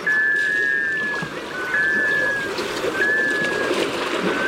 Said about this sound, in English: You're hearing the call of a male black scoter. Black scoters are sea ducks that spend the winter on saltwater bays.